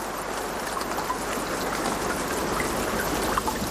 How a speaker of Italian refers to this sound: La pioggia che cade, l'acqua che scorre, i fiumi e i mari che irrorano la vita, dolce sangue per essa.